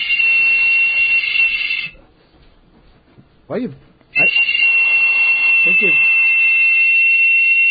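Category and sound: signal or alarm, whistle blown hard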